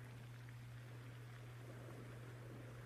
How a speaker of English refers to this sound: of the waves as they effortlessly come to shore, softly caressing your feet as the waves retreat once more. The rhythmic music of the waves taking you deeper and deeper into relaxation.